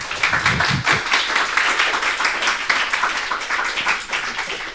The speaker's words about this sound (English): Yeah, why don't you give these guys a round of applause?